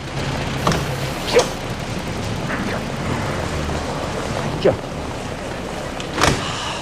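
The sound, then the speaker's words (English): A car door unlatches and swings open, with a few sharp clicks and clunks spaced out as a passenger climbs out, all over a steady low background hum. “Hofer opens the door and Sir Robert gets out.”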